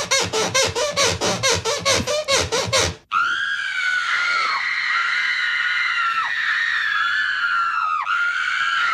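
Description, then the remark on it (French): A loud, piercing scream held for several seconds with brief pitch dips, following a short run of rapid, evenly spaced pulsing bursts that cut off abruptly. “Les sirènes, les sonneries, les cris, et encore, il y en a d'autres, hein,”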